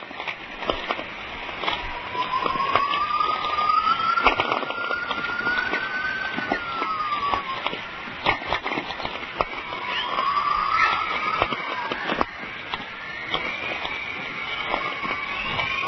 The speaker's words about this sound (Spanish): el sonido de la tormenta magnética genera una especie de chisporroteos muy divertidos y muy originales que son muy fácilmente identificables. Esto se grabó en Peace River, al noroeste del estado de Alberta, el 2 de junio de 1996.